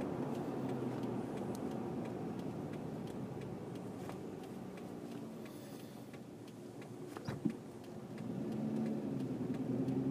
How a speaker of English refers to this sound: Besides, gotta floor a truck every once in a while. Yep. Blow out all the crap building up.